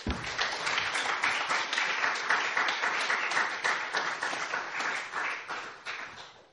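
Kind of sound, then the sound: crowd, audience clapping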